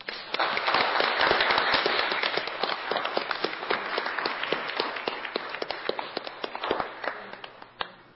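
People in a courtroom applaud at the close of a court hearing for several seconds, dense overlapping claps building quickly, staying loud and steady, then thinning out into scattered claps near the end.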